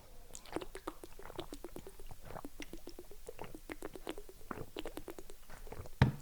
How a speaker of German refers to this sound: Komm, wir machen nochmal alle zusammen eine schöne kleine Trinkpause und dann schweigen wir einmal nochmal 30 Sekunden. Also einmal eine Trinkpause.